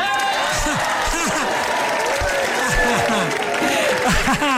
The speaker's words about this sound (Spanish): Ay, ya ni se los creo a ustedes, ya no saben cuándo aplauden ni cuándo no, pero está bien. Voy a pensar que todo el público así lo ha querido.